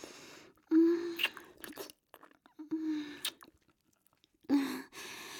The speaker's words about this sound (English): Kissing your balls. Licking your shaft. Slurping on your sloppy, dripping head.